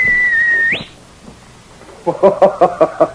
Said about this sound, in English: Even as Sergeant Preston whistled for King, the sharp whistle that had always been a signal between the two of them, the Mountie wondered and hoped.